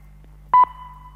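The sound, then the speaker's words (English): A loud electronic beep of about a second from a talking clock's time signal: a sharp tone burst at the start, then a steady tone that fades away over a faint low hum. “At the signal, it will be 21, 13, and 40 seconds.”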